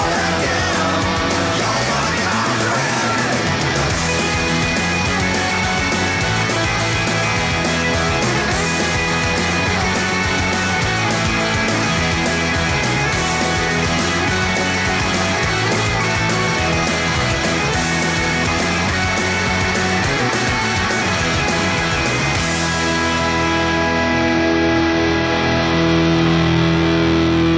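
A loud, distorted punk rock song with driving guitars and shouted vocals plays steadily, then ends abruptly with a ringing tail near the end.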